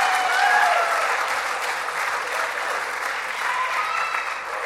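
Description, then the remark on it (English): A crowd applauds the Yellow Jackets, a dense wash of many hands clapping at an even loudness for several seconds, with a few faint whistles or cheers rising above it. “We're getting to do this here, so let's give our Yellow Jackets a big round of applause.”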